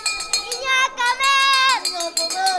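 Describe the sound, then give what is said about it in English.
A dinner bell clangs in a quick, uneven series of bright metallic strikes, rung by kids at the Jesus the Good Shepherd migrant shelter about 4 miles outside Tapachula, Mexico, whose high voices call out loudly over the ringing. “Kids ring the dinner bell at the Jesus the Good Shepherd shelter about 4 miles outside of town.”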